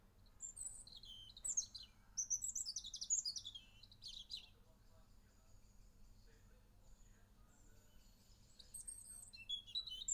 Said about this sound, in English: It's a robin, a small bird with a bright red breast, common across Europe, but not in China.